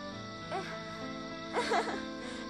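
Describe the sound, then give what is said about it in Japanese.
A person whimpers and sobs: a brief quavering cry, then a longer, shakier one a second later, over a soft, steady musical drone. “そっか、違うんだよユキヤ。私泣いてるからだ。”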